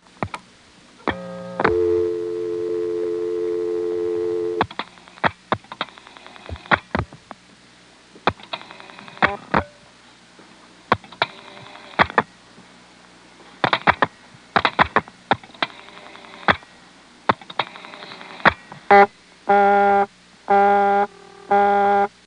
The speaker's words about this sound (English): Exchange in Manassas is the 368 exchange, which is on 78, and I'm going to dial a call to a busy test without using the director.